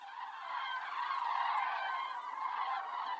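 A large, swirling flock of birds calls overhead in a dense, unbroken chorus of honking cries, steady and fairly loud throughout, with no voices in between.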